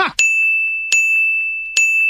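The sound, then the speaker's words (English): A small bell rings three times at a steady pace, each bright ding sustaining a clear high tone that rings on between strikes; loud, with no voices. “Can we get a louder bell?”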